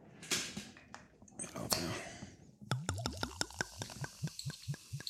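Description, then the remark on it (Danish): Ginger beer is poured into a glass in Odense, Denmark, during heavy snowfall: a soft hissing fizz first, then a quick run of bubbly plops and glugs as the liquid fills the glass. “Bare når du hælder den op, kan man høre kulsyren, ikke?”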